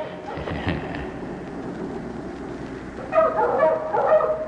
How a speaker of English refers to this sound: What's that? Oh. Ah. It's the baying of the old gray dog at yonder red farm.